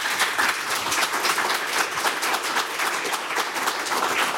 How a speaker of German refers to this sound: Ich kann verstehen, dass Sie da mal kurz einen Applaus einflechten wollten.